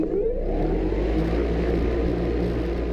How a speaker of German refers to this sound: hält die Geräusche seines Volocopters aber für recht angenehm. Hubschrauber sind irrsinnig laut. Es ist auch ein sehr aggressives Geräusch von einem Hubschrauber. Also es macht Angst. Bei uns ist es ein ganz warmes